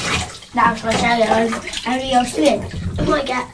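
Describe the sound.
Hot water pours steadily into a bath with a constant rushing hiss, while people talk over the noise throughout.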